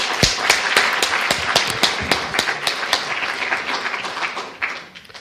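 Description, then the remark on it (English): An audience applauds to welcome a Professor of Responsible Tourism from Manchester Metropolitan University as speaker, with dense, steady clapping and a few sharper individual claps standing out, holding fairly loud before thinning and fading away near the end. “Big applause.”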